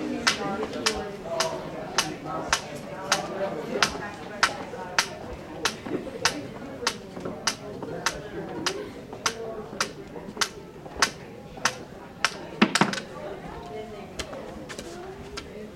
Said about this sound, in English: Listen to the ambient sound deaden as he walks with his cane from the reception desk to the study rooms.